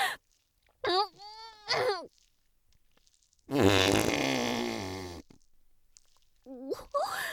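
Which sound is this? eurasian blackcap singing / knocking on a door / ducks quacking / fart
fart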